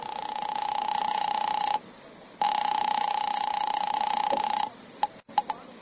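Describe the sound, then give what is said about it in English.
A drugstore telephone line rings in two long, steady electronic tones separated by a short pause, followed by a few quick dialing blips. Fairly clear, with no talking. “I lammed out of there fast and ran three blocks until I found a drugstore with a phone.”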